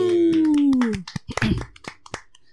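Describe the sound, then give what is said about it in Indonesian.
A few people clap in a loose, uneven scatter of sharp claps for about a second and a half, following a brief drawn-out voice that glides downward in pitch. “Kongres dong, tepuk tangan dong.”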